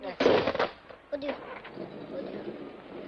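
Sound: explosion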